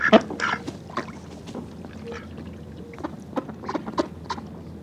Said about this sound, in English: On this week's Hudson River Soundscape, we listen to some seemingly cantankerous ducks at Garrison, across from West Point.